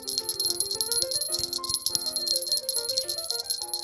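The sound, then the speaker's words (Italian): Little bells hanging from the branches of an apple tree jingle nonstop as apples are picked, in a bright, shimmering cluster, a steady metallic tinkling that stays fairly loud for the whole stretch, with no voices. “Non appena i fratelli staccarono le mele dall'albero, i campanellini suonarono.”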